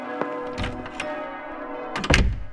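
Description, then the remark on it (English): A heavy door into a rectory thuds shut with a solid, resonant knock near the end, preceded by a few softer knocks and a lingering ringing hum. “All the same, if you just step this way, it's just in this door.”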